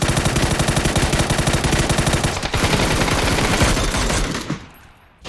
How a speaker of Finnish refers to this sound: Hei, nyt se on meidän oikealla puolella, Sautti puolella. Jep. Ammutaan se. Ammutaan vaan, tässähän se on. Pysähtyy tähän.